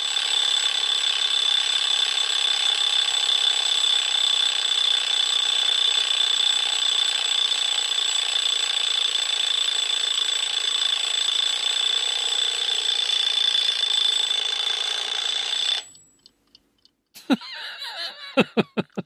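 A mechanical alarm clock rings loudly and steadily, its bell rattling nonstop for about sixteen seconds before cutting off abruptly, followed by a few brief clicks and rattles.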